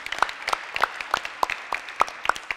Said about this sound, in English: So their account, their fundraising account is full, but they're, yeah, we can clap for that.